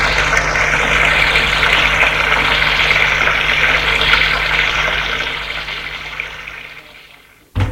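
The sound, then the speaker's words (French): Steady rushing shower water runs continuously in a bathroom, a broad hissing spray that holds for several seconds before cutting off abruptly near the end, with a brief bump after. “Après avoir pris sa douche, il entre dans sa chambre.”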